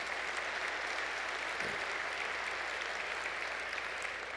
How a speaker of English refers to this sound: And there's going to be, yes, another good applause point.